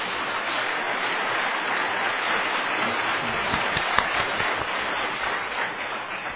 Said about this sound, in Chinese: 咱将荣耀归予上帝，用一个掌声将荣耀归予上帝。